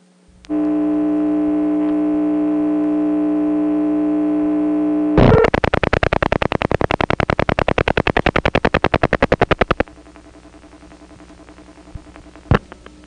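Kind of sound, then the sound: signal or alarm, telephone line hum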